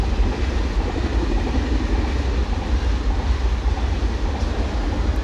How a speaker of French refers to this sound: Regardez comme c'est drôle. Ça, c'était le TGV. Eh oui, voilà, on est là en train de regarder cette très jolie rivière, ouais. Un peu droite quand même, mais et juste à ce moment-là, le TGV passe. Il y a 15 mètres de la rivière.